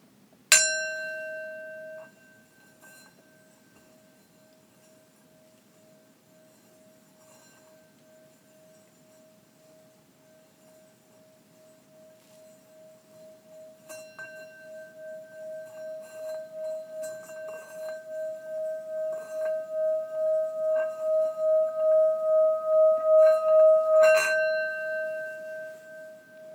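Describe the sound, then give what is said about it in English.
A singing bowl is struck once, leaving a steady ringing tone. The mallet then circles the rim, and the pure, pulsing hum gradually swells louder before fading at the end. No one speaks. “Or they can be made to sing by moving the mallet around the rim to increase the vibration and make the sound swell after a few seconds, like this.”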